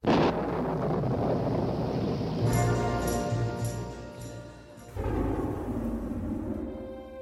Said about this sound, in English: We even get the same thunder in the very beginning of the song